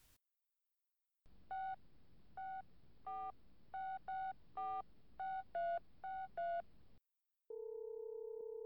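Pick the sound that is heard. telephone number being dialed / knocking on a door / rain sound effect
telephone number being dialed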